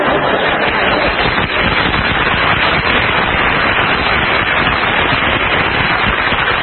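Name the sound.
audience applause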